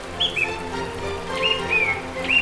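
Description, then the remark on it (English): A steady wash of running water from a babbling brook in the valley town of Sleepy Hollow, with a few short, clear bird chirps rising above it now and then. “A babbling brook runs through it.”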